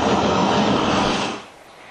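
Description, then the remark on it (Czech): A Starship Super Heavy rocket launch: a loud, broad, steady roar that rumbles for over a second, then drops off sharply and fades to a quieter hiss. No voices are heard. “No a podívejme se na ten start.”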